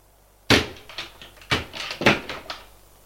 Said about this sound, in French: Tremblante, elle va ouvrir l'armoire. Non, rien.